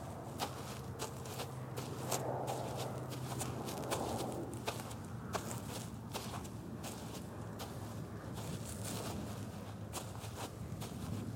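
footsteps crunching in snow

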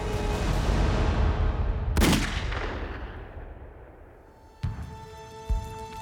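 artillery shells exploding

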